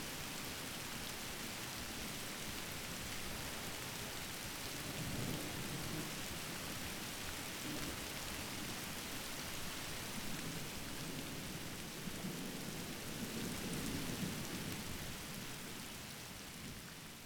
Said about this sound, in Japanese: こうしてたいな。何も考えずに雨の音だけ聞いていたいな。